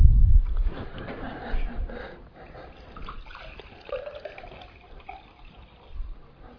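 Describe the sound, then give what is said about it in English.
Water pours and splashes into heavy glasses, a steady trickling with occasional louder gurgles and a slight rising fill tone, with a bump at the start. “Okay, I'll put this down here and you can pour those right back in there.”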